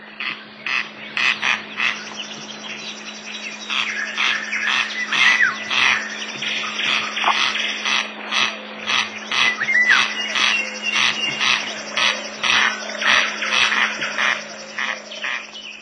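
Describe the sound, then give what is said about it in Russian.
Toward evening, a corncrake calls over and over in a meadow, a dry, rasping, two-part crek-crek repeated in a steady mechanical rhythm, with a faint constant low hum underneath and no talking. “Ближе к вечеру в лугах и воржи однообразно и деловито шумит дергач.”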